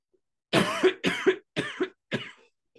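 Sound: coughing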